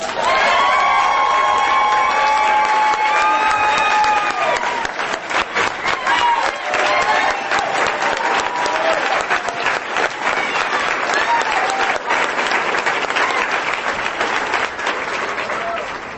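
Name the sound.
audience applause and cheering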